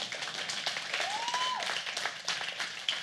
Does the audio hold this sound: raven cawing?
no